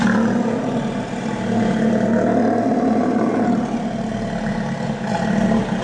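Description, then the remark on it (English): Deep, throaty roaring of Steller sea lions fills the whole stretch, loud and continuous with a rumbling low drone and overlapping calls, no voices. “Unlike the California sea lions, who are known for their distinctive bark, stellar sea lions make a deep roar.”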